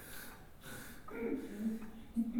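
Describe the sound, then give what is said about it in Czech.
A voice imitates being sick: breathy sniffles and snorts at first, then a strained, raspy wheeze with a hoarse voiced edge, all fairly quiet and over a couple of seconds. “No a tak jsem ráno začal tak jako pokašlávat, posvrkávat, chraptět,”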